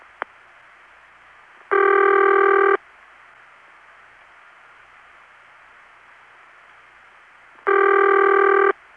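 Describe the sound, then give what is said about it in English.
A telephone ringback tone from an Independent (non-Bell System) telephone company sounds twice over a faint line hiss, each ring a steady buzzy tone lasting about a second, separated by roughly six seconds of quiet hiss. “Well, the pitch of that tone is very close to the Bell System's City Ring, but it's clearly different.”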